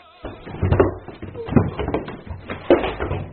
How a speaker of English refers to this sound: Oh, a woman dashed downstairs and knocked me down.